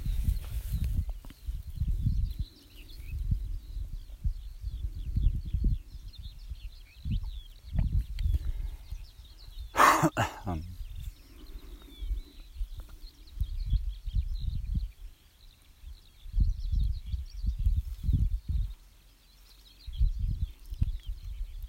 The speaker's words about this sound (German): Für die Ornithologen so zwischendurch könnt ihr Vogelstimmen, Stimmen bestimmen. Einer ist vielleicht am deutlichsten oder die eine.